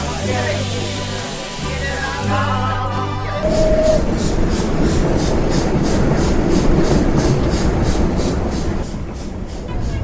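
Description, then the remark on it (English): Brief music gives way to the loud, steady rumble of a moving passenger train, its wheels clattering over the rails in a quick, regular clickety-clack that continues to the end. “On the train, passengers crowd the corridor to look out the windows.”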